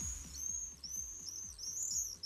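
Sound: common swift calls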